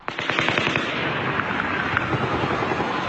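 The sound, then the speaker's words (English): A loud, rapid burst of gunshots cracks out in quick succession, followed by a dense rolling echo that keeps rumbling for a couple of seconds. No one speaks. “There's the original fire, sounds really close, and then the echo. Here's the second round.”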